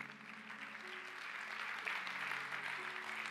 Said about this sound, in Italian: Fai un applauso forte!